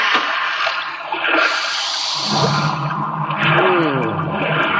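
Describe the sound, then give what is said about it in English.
Submarine ventilation blowers start up after surfacing, with the main induction opened, giving a loud, steady rush of air, joined partway through by a deeper mechanical hum and whine that swells and keeps running. No voices. “Open the main induction, start the blowers.”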